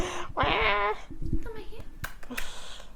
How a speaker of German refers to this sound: Ich dachte, ich kann euch jetzt ein paar. Miaus ganz nah ans Mikro geben.